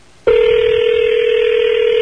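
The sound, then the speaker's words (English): A telephone tone sounds as a call is placed on the Don and Mike radio show, starting abruptly and holding as one loud, steady, unbroken electronic tone for about two seconds, with no one speaking. “Might be on the phone.”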